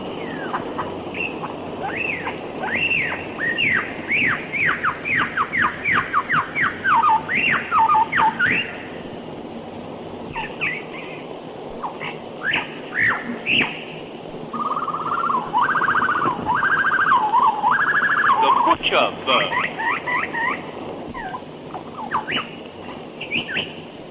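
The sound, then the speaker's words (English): A lyrebird's own call rings out loud in an Australian forest: rapid, varied whistles and sweeping chirps, then a run of repeated mechanical-sounding notes, over a steady hiss of forest background. “Amidst the roar of the Australian forest, we will first hear the lyrebird's own inimitable call.”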